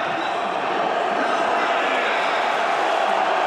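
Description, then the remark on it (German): A large stadium crowd in yellow cheers and roars at the Frankfurt Arena after Romania equalized 1:1 against Slovakia with a penalty by Raswan Marin in the 37th minute, in a dense, steady wall of noise, loud and unbroken throughout with no single voice standing out. “Der Jubel in Gelb hallt hier noch nach in der Frankfurter Arena.”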